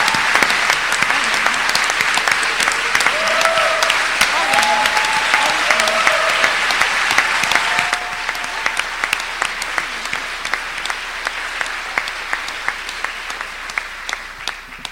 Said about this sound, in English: Please join me in giving them a round of applause.